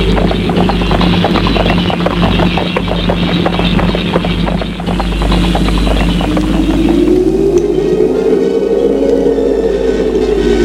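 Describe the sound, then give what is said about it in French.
A horse ridden furiously through the countryside gallops with rapid, rhythmic hoofbeats for several seconds, loud, before the pounding fades under a rising, howling wind-like tone. “Chevauche, fou de rage, dans la campagne.”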